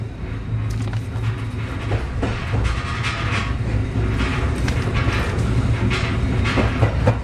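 A train pulls away on schedule, wheels clacking rhythmically over rail joints amid a steady low rumble and rattling carriages, loud, with no voices.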